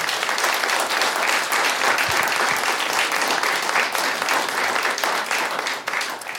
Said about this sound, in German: Applaus, Applaus, Wolf Schneider.